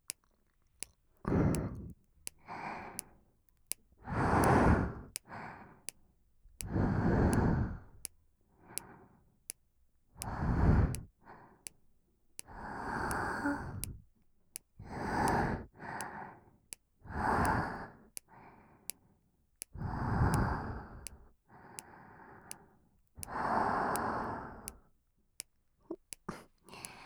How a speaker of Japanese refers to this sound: 吐息だけ聞かせてあげるね。